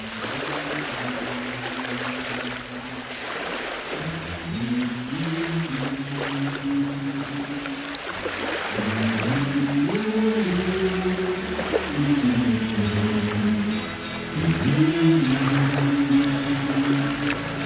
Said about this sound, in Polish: No tak ciepło jest, słychać morze.